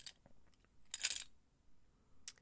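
A set of keys drops onto a bed with a bright metallic jingle, with the loudest clatter in the middle and quieter clinks just before and after. There is no talking.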